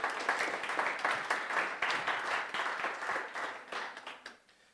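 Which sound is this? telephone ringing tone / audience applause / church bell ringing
audience applause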